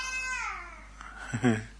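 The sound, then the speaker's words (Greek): A baby babbles softly, starting with a drawn-out, high-pitched squeal that slides downward, then a short burst of voiced baby sounds after a brief pause. “Άκουσε νήπιο και ενθουσιάστηκε.”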